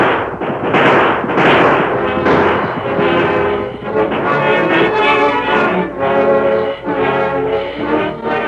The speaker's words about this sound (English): The sheriff and his posse were nearing the wood that concealed the camp when the outlaws started to shoot it out. The roar of gunfire put fresh heart into the men